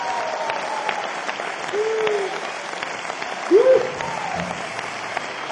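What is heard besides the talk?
audience applause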